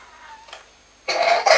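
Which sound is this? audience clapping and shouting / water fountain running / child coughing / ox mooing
child coughing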